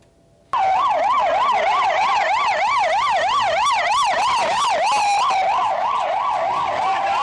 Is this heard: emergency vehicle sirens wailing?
yes